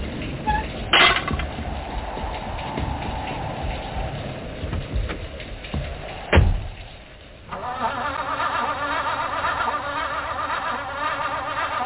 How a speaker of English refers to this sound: Oh, no. The car won't start. Darn it. Start. Wait. Stop for a second. It'll start. Just turn the key too hard, that's all. Just turn it easy and...